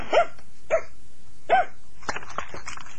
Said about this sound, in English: You hear the dogs? They're here. Lots of them. Come on, bark! Bark, you!